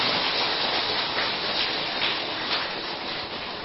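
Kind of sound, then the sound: crowd, audience applause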